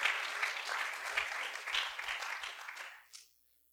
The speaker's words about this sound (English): if you're living spiritually debt free tonight, amen, you need to clap your hands to Jesus Christ.